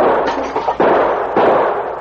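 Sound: gunshots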